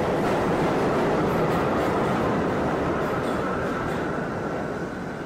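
A train rumbles along the rails in a dense, steady, loud roar of wheels and carriages, easing slightly as it moves off toward the end. No one speaks.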